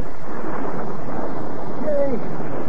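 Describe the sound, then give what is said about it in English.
Loud, steady roar of storm wind mixed with surging, crashing waves at a dock where boats are being tied up, a continuous wash of noise with a faint high whistle rising briefly near the end. “Well, let's go over and help the fellow who saved us get his boat tied up so she can sink, and then let's get inside out of this here storm.”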